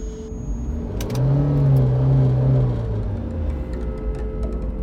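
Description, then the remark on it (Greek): A car engine is started with the key and revs up, a low droning hum that swells and holds before settling into a steady running rumble, with no talking. “Βάζει τα κλειδιά, βάζει μπροστά το αμάξι, δεν μίλαγε καθόλου και κατευθύνεται προς Πάρνηθα, Πεντέλη, από εκεί πέρα.”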